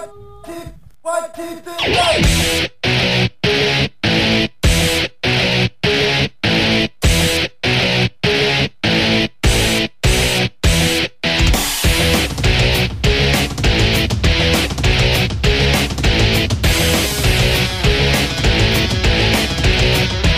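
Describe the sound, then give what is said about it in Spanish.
A loud, distorted punk rock guitar song kicks in with choppy stop-start chords over drums, then breaks into a continuous, driving full-band wall of fuzz. “Más guitarreo, más distorsión. Sí, ¿no? Más punk.”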